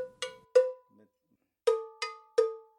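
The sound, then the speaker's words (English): Five metallic strikes on a painted bell from a collection of about 30 bells in a home in Caledonia, south of Milwaukee, in an uneven rhythm: two quick hits, a pause, then three more. Each has a bright clanging attack and a short ringing low tone that fades quickly, with no voices. “Each resonates differently depending on how they're held or struck.”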